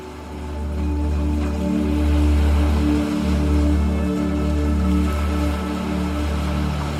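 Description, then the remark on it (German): A steady, soft wash of water noise from gentle sea waves rolling onto the shore, swelling slightly and easing back under a low, constant rumble, with no voices present. “Die sanften Wellen des Meeres rollen auf das Ufer zu.”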